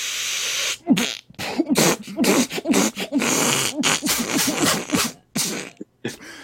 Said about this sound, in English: I don't even think I would ever stop coughing, dude. Sounded like you had diarrhea.